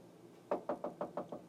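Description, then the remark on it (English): Six quick, evenly spaced knocks on a door, sharp, rapping out after a short quiet pause with no voices around them. “Oh, crap. Somebody's at the door.”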